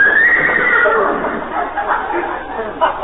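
horse whinnying

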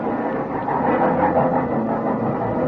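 train pulling into station

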